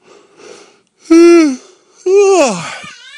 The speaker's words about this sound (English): My apologies, listeners. I am yawning. I got a case of the yawns. Well, every once in a while, blue moon. Hey, this is our first episode I think I ever yawn on. It's a radio first. The first yawn.